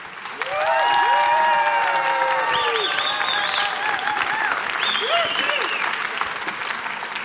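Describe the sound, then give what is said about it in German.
A live audience on the second day of a trade fair claps steadily and loudly for several seconds, a dense, continuous wash of applause with voices cheering and calling out above it. “Wahnsinn, was für ein Applaus”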